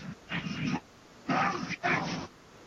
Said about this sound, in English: Oh, dogs!